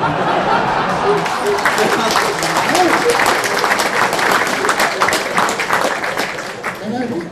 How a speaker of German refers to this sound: Nicht immer so früh klatschen.